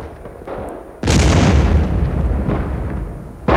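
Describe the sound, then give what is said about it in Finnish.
A single loud cannon blast, fired by a Jesuit at the King of Sweden, erupts suddenly, a deep booming roar that rumbles on for a couple of seconds before fading, with another sharp burst starting at the very end. “Hän näyttää panevan kaikkensa tuohon laukaukseen.”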